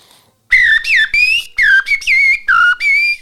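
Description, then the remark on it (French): A person whistles a blackbird's song, a run of about eight bright, fluting phrases that swoop and warble in pitch, loud and clear with short gaps between them and no talking. “un merle comme ça, et puis un petit rouge-gorge”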